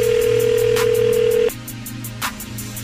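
A single steady telephone ringback tone sounds for about a second and a half over a faint line hum, then cuts off into quiet line noise with a few soft clicks.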